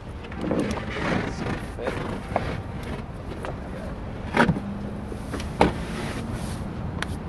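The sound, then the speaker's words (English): Outdoor parking lot outside a Home Depot store in Park Ridge, where two men cut long pieces of drywall with a knife so it fits in a car; a steady low rumble of passing vehicles, broken by a couple of sharp knocks and scrapes. “of the economy are those in the parking lot outside of the Home Depot.”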